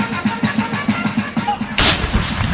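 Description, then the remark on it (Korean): Celebratory cannon salute fired as Martha Washington stepped off a ship in New York in May 1789, amid a welcoming crowd: a steady run of low, rumbling thuds gives way to one loud, sharp blast that rings out and decays into a dense roar. “요란한 축포 소리와 워싱턴 부인 만세를 외치는 환영 인파 속에 배에서 내렸지만”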